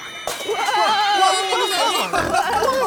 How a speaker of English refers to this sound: Whoa! Whoa! Piggy! Catch that pig! Whoa! Almost got it! No!